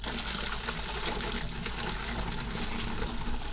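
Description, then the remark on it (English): A steady stream of tea pours continuously from a teacup through a funnel into a bottle, a broad rushing trickle with no pauses, heard alone without speech. “So now we grab the bottle and the funnel combination, the teacup, and we start pouring in the tea.”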